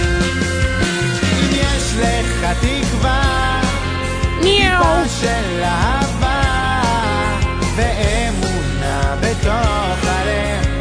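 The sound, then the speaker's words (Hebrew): Several cat meows rise and fall over a dense, steady background, coming one after another at irregular intervals and sounding clear. “אנחנו סורכים פה חתולים.”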